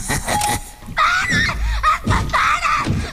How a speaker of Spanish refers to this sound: ¡El exorcista! ¡Ay, el exorcista! ¡Correcto! ¡Sí, qué crack! Porque estaba gritando.